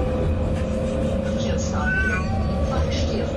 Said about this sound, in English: Maybe she just really hates Stephen's Green. Oh, that's actually quite sad. It's a kind of a mournful meow, isn't it?